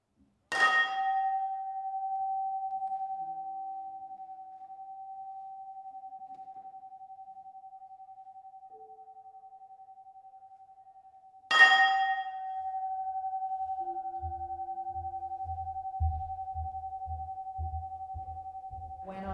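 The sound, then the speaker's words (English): A big metal ring is struck twice with a mallet during a concert, about eleven seconds apart. Each hit leaves a steady, pure mid-pitched tone that lingers through the room and excites the acoustics of the space. Soft, rhythmic low thumps join near the end. “Amazing sound also in the concert where Stephen got the mallet and the big metal ring and hit it, and it totally excited the entire acoustics of this space.”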